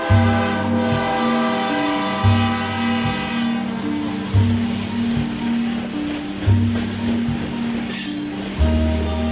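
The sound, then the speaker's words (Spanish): A freight train of the kind known as La Bestia, which carries Central American migrants across Mexico, rumbles past, its horn blaring in a long, steady tone at first, while low rhythmic thumps from the wheels repeat every couple of seconds under a broad mechanical roar. “Bestia no es solo un tren, son muchos, muchos trenes que permiten a miles de inmigrantes centroamericanos cruzar del sur de México hasta la frontera de los Estados Unidos.”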